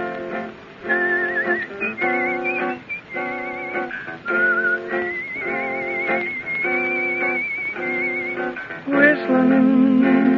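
A person whistles a lilting cowboy-style melody with wavering, sustained notes over steady rhythmic musical accompaniment. The whistle is clear and prominent for about ten seconds, with no talking.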